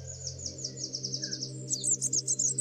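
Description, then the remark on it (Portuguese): A female European robin gives a quick series of high, thin chirps, repeated in a steady rhythm that grows busier toward the end, over a constant low background hum, on the far bank of the Salreu estuary channel, a waterway linked to the arms of the ria. “Durante a nossa espera para a observação surge uma fêmea de pisco de peito ruivo.”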